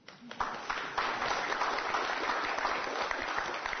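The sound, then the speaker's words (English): A church crowd breaks into sustained applause for the couples who shared their stories, many hands clapping in a dense, steady wash that starts abruptly and holds at an even, fairly loud level throughout. “So I want to give them a round of applause.”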